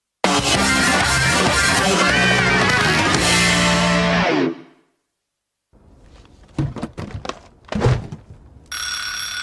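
A loud, harsh alarm clock bell rings continuously for several seconds, then cuts off. A few dull thumps and rustles follow before a bright ringing tone starts again at the end.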